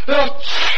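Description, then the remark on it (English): A single loud sneeze: a short voiced intake that builds, then a sharp hissing burst of breath, heard on its own with no talking. “Bless you and cheer up”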